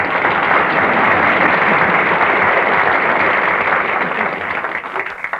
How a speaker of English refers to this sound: Why, that's applause for you, Ned. Well, you might as well stop, and I'm sick of it.